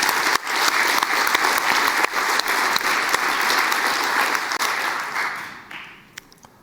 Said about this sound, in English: Many thanks to NixCZ. Give them applause.